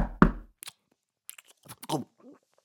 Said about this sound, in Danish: Pludselig banker det hårdt på døren.